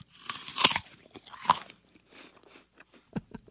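A crisp bite into a Black Oxford apple, a black-coloured variety native to Maine, crunches loudly with sharp, crackly bursts, then a few softer, wetter chewing crunches follow in an uneven rhythm, with no voices.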